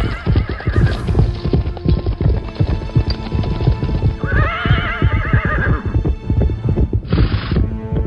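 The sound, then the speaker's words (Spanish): Several horses gallop hard as a rider flees on horseback pursued by a royalist party, hooves pounding in a rapid, dense rhythm, while loud whinnies and neighs break out repeatedly over the thunder of the hoofbeats. No one speaks. “Huía a caballo perseguido por la partida realista de Oliva”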